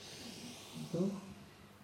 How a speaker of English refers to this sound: Breathing out, bring the chin towards your chest, rounding the back. Breathing in. Looking up. And breathing out. Breathing in.